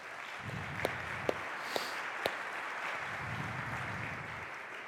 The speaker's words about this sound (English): and many of you showed up and volunteered your time and your energy, so I would love to just give a round of applause to those of you who helped yesterday.